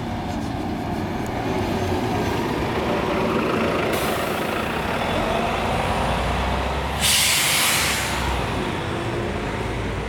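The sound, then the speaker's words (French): A heavy bus engine rumbles steadily for the whole stretch, with a sharp burst of air-brake hiss about two-thirds of the way through as it goes by. No one speaks. “J'entends le bruit d'un moteur. Et le passage d'un bus.”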